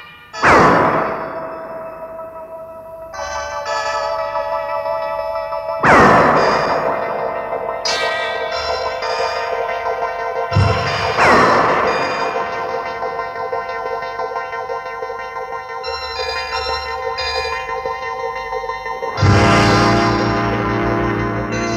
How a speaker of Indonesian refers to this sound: takut terkena sasaran dari pukulan-pukulan Kinaga yang mulai membabi buta